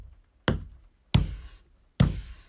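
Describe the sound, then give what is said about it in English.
Three solid knocks by a woman signalling a number land one after another at slightly uneven intervals, each a sharp thud with a short ringing decay, separated by silence and no voices. “She knocked 5 times.”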